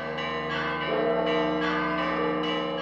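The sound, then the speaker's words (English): Several church bells of the Church of the Holy Sepulchre in Jerusalem's Old City ring together in a dense, continuous peal summoning worshippers to Easter Mass, their overlapping strikes and long ringing tones filling the air with a rich, resonant clangor. “A short time later, bells summoned worshippers to Easter Mass at the Church of the Holy Sepulchre in Jerusalem's Old City.”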